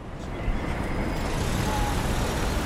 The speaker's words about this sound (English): In downtown Chicago, the streets are crammed with cars and pedestrians.